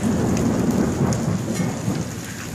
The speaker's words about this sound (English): He was watching the storm.